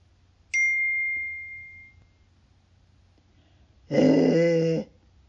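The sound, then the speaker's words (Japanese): A bright ding rings out and fades, followed after a pause by a short, loud dog growl lasting about a second. No one speaks. “川の中の犬も怖い声を出しました。”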